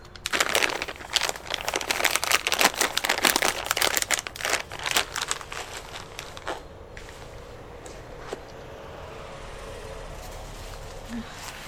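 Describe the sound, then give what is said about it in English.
Dense crinkling and rustling of plastic packaging as diaper-changing supplies are unpacked beside a stroller in a park, busiest in the first six seconds, then thinning to sparse crackles and a faint low hum. “Get out all your supplies.”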